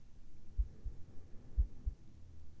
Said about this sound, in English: Here, just listen to my heartbeat. Just try to relax.